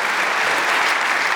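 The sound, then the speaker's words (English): A church audience applauds steadily to welcome the men's ministry director, a dense wash of many hands clapping at an even, fairly loud level with no talk over it. “Look at that. You got applause.”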